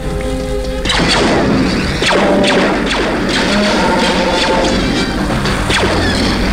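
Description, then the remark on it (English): After a brief steady tone, heavy blast doors slam shut one after another, a series of loud booming metallic impacts over a constant roaring rumble, with no voices. “Please close the blast doors.”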